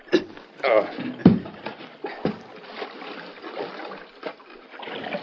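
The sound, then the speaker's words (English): Creek water splashes and sloshes irregularly as a heavy rocker for washing gold is lowered into the creek, with uneven bursts of churning water and indistinct voices underneath. “Help me lift this thing into the creek.”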